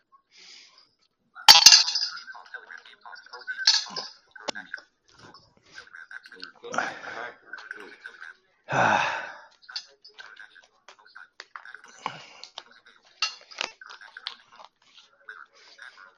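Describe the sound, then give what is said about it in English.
Dishes clank and clatter in irregular bursts as supper is put away after eating, with sharp clinks and a few heavier knocks spread across the stretch, and muffled voices faintly in the background. “We just got through eating supper, and I'm just putting it away now.”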